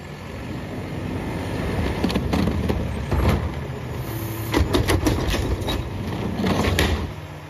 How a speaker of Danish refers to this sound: Det er nemlig lyden af en skraldebil, der tømmer en skraldespand. Måske I havde gættet den.